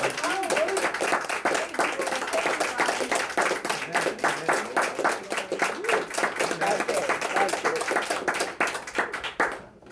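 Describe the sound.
A crowd gives a standing ovation to God, clapping loudly and steadily, dense overlapping hand claps with a few voices and cheers mixed in, fading slightly at the very end.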